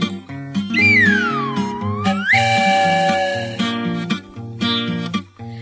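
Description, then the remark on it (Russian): A steam whistle blows over bouncy, cheerful music: first a swooping tone that dips and rises, then a loud, sustained shrill blast for about a second before the music carries on. “Он летит себе по небу и свистит, и чаек для Дуси с Васей кипятит.”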